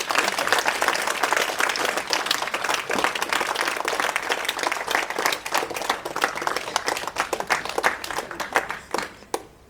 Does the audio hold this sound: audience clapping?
yes